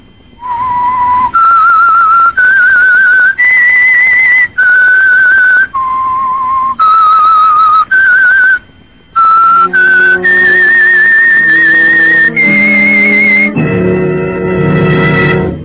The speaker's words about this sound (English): whistle is your signal for the Signal Oil program, The Whistler.